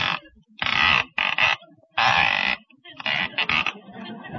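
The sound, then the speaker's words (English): A telephone dial being turned, heard as a series of loud, rasping whirrs in quick succession, each burst lasting around half a second with short pauses between, and no talking. “Certainly a noisy dial in there, ain't it?”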